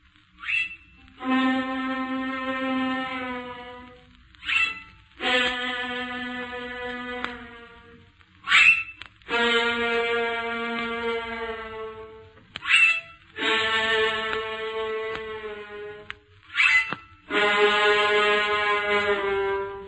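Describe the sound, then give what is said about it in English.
A short musical passage mimicking a donkey's bray: five times over, a brief high note leaps down to a long, sustained, reedy lower tone, repeated in a steady rhythm with no voices. “You will now hear a little musical composition that portrays to you the donkey.”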